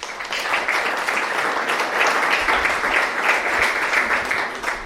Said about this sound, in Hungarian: Oké, szeretném bemutatni az itt jelenlévő bátrakat, és a bátraknak először egy nagy tapsot szeretnék kérni már az elején.